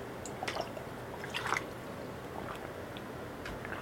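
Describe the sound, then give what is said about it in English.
Someone takes a swig of water during a show recording: faint, wet sips and soft squishy mouth sounds in a few brief bursts over quiet background hiss, with no talking. “I had to take another swig of my water here”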